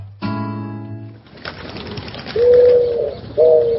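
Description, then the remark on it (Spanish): A brief droning tone gives way to hissy outdoor noise, then a pigeon perched on a cable across a street in Almagro coos twice, a longer throaty coo followed by a shorter one. “Una paloma se para en un cable que cruza una calle de Almagro y ve lo mismo que vio ayer cuando estuvo en una cornisa de una casa en Zárate, o en un árbol de Rosario, o un tejado en Córdoba.”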